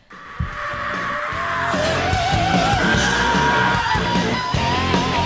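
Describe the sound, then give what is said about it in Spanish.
A loud, dense metal song with harsh screamed vocals over heavy distorted guitars and pounding drums, driving throughout; the screaming comes at the start, gives way to an instrumental part, then returns. “lo ha sido al principio, después ha habido instrumental y ha vuelto a gritar.”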